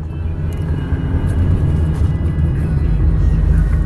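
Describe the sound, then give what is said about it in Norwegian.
A steady, loud low-frequency rumble of a car driving to Lensbygda, heard from inside the cabin, with constant engine and road noise throughout and no talking. “Så har vi kommet oss ut I bilen.”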